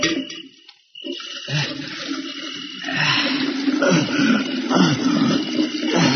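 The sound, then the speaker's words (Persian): Water rushes and splashes steadily into a container, fairly loud, with a brief pause near the start before the flow resumes and grows fuller. The water is being filled to put in the back of a car. “زود باش تا موی دبر آب میکنم بذارم پشت ماشین اومدی.”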